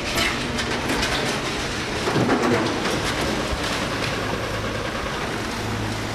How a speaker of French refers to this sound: Ce que vous entendez derrière nous, ce sont des bénévoles armés de camions et de pelleteuses qui déblaient les décombres des rues d'Arweiler.